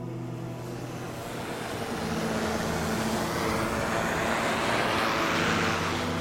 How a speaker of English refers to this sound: Oh, I can see the drone flying right through the plume right now. It's awesome.